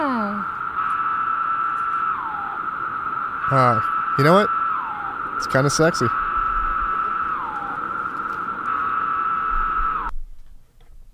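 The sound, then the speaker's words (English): A loud, unbroken high-pitched drone from a chorus of screaming cicadas, with whining pitch dips every few seconds. A voice speaks briefly over the buzz before it cuts off at the end. “What is that cool sci-fi noise? I like it. The cicadas.”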